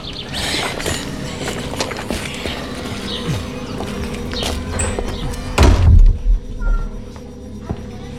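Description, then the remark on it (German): A door to a side room swings shut with a solid thud partway through as a man closes it behind himself and two other men, over a steady hum of background ambience and faint buzzing. “verschwindet mit zwei Männern in einem Nebenraum und schließt die Tür hinter sich.”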